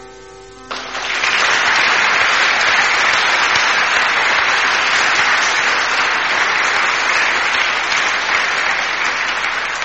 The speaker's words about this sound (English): Applause from the audience in Birmingham for the Bhakti musicians who appeared in our Spirit of the Earth Festival in July last year.